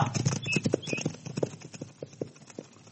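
horse hooves galloping away

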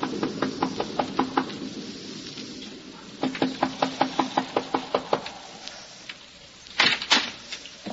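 knocking on a door

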